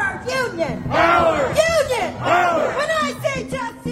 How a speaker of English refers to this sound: First of all, when I walked across City Hall Plaza, you can hear protests and rallies, union protests and rallies. To driverless cars and yes to human beings.